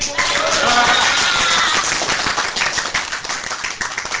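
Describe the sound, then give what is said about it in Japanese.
Applause from a large crowd gathered for the Nikkan FMC Sunday edition radio show: dense, continuous clapping with many sharp overlapping claps, loud at first and thinning slightly toward the end, with some cheering voices mixed in. “はい、もう先ほどの拍手でも分かる通りですね、 はい、 今日はね、大勢ですね、賑やかですね”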